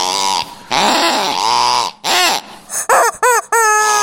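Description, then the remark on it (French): A squeaky plastic chicken toy squawks loudly, with about six honking, wheezy bursts. Some are long drawn-out squeals and others are short yelps, with brief gaps between them and no talking. “Et donc, on a acheté deux cochons et un poulet en plastique.”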